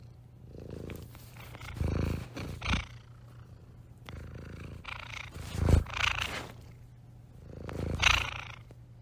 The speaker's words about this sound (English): I almost feel like I can feel the vibrations of that cat purring in my ear right now.